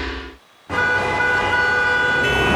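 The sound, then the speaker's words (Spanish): Loud city traffic with a blaring emergency siren: a short burst of street noise, a brief dip to near silence, then a dense, steady wall of engine rumble and a sustained siren tone. “Del tráfico, el día con tantos pendientes y yo atorado, sin tiempo de nada.”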